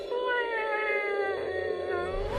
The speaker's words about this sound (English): She lifted her head higher and made a low purring sound in her throat.